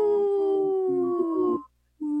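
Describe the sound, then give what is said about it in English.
A person imitates a wolf with a loud, sustained howl that holds a steady pitch and rises slightly before breaking off. After a brief pause, the howl starts up again. “That's a strong howl.”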